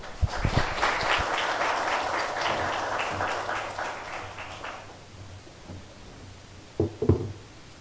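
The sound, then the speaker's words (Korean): An audience bursts into steady applause to open a lecture, many hands clapping in a dense, crackling wash that gradually thins out, followed by a few thumps and faint murmurs. “그러면 큰 박수로 오늘 이번 강연을 시작하겠습니다.”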